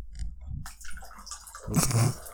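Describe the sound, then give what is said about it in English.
Jose Cuervo Tropical Paradise margarita from Sam's Club glugs and splashes into a glass, a short trickle building into a fuller, bubbling pour near the end, with a few soft clinks and rustles before it. “And I'm going to pour me some.”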